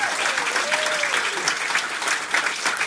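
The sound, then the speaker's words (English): Steady audience applause for everybody on one side of the room, a dense wash of many hands clapping at an even, fairly loud level for the whole stretch, with a faint tonal whistle-like squeal briefly audible early on. “Please round of applause to everybody on this side of the room.”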